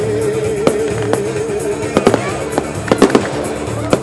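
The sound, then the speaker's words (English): Fireworks display crackles and bangs in an irregular burst, sharp pops clustering and overlapping over a steady low rumble of crowd noise, busy. “They're losing fireworks.”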